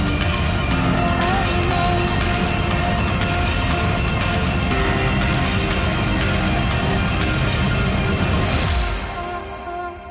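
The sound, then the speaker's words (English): Rocket engines roar at liftoff, a loud, dense, crackling rumble that holds steady for about nine seconds before dropping away and fading at the end. “12, 11, 10, 9, ignition sequence start. 6, 5, 4, 3, 2, 1, 0, all engine running.”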